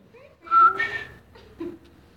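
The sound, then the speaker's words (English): A person gives a short whistle to call someone, a quick rising tone followed by a brief second note, then a fainter third chirp, like a signal to get someone's attention. “Those days, you go and throw a stone at a window, call, or you whistle.”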